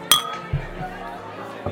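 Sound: glasses clinking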